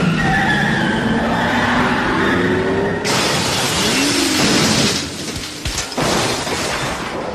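car skidding and crashing

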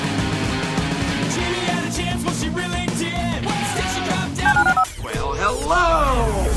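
telephone dialing tones

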